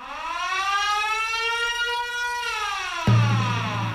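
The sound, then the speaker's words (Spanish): A loud, steady wailing alarm siren sound effect on a radio show, marking the start of the Atrévete quiz, with rich harmonics, its pitch gently rising then falling, cut off near the end by a sudden low-pitched burst of noise. “Es el momento, han saltado las alarmas.”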